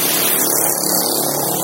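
A loud, steady roar of motorbike engines passing outside, the tone sweeping slightly as they go by, with no voices over it.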